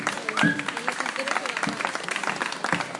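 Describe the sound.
An audience applauds steadily for about three seconds, a dense wash of many hands clapping at a fairly loud, even level, with a few cheering voices and a brief whistle mixed in.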